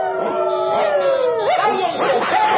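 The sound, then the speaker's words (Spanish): A chorus of many dogs out in the streets howling and barking at once, heard throughout a city, overlapping wavering howls rising and falling continuously, loud and dense throughout with no pauses. “Sus ladridos se escuchan por toda la ciudad.”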